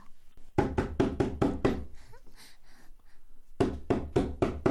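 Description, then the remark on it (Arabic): A father knocks on a door for his son to open it: a quick run of five firm knocks, then a pause with faint rustling, followed by another burst of rapid knocking. Loud, with no one speaking. “افتح الباب يا أحمد. حاضر حاضر يا أبي، أنا قادم.”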